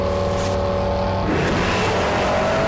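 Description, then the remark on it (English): A Challenger muscle car engine roars steadily with a deep, loud rumble at the start of a street race, then surges harder as it shoots off down the street, the pitch climbing and the rumble thickening into an aggressive acceleration. “Brian watches the Challenger shoot off down the street.”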